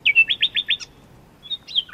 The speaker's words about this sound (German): Die Vögel machen es.